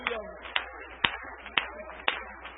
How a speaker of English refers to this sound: Would you one more time clap your hands unto the Lord? For He is worthy, for He is worthy, for He is worthy.